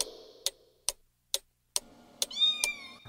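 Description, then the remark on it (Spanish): A cat meows near the end, a rising then falling cry, over a steady clock ticking at regular intervals throughout; no one speaks. “¡Un gatito!”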